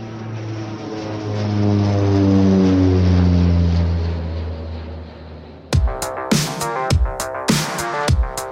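A propeller airplane drones past, its buzzing engine tone slowly sinking in pitch as it flies by, before sharp, punchy percussive music hits cut in over the fading roar.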